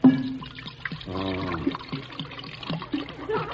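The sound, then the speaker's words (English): Beer being poured into a ten-gallon hat, filled to the brim: a steady, splashy stream of liquid with a gurgling, rising tone as it fills, followed by irregular drips and trickles. No one speaks. “Just fill it to the brim with beer for me to go out a-sipping.”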